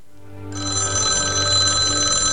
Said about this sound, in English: The phone rings.